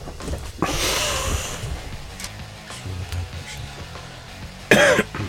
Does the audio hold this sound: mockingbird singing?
no